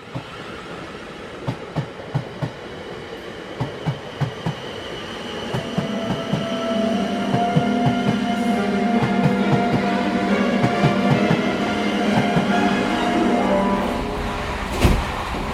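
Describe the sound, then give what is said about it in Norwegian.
A train rolls along the rails with regular clicking wheel beats, then a steady rumbling hum builds as it picks up speed, ending with a brief louder thud. The train is travelling to Oxford. “For å finne gammel litteratur om den hellige gral, setter Lars og Jens seg på toget til Oxford.”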